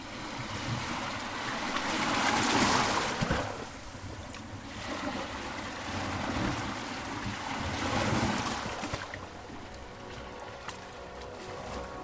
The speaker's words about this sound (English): The sea ebbing, leaving wet sand and white foam residue.